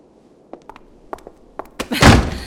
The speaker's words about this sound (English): Close the door, won't you?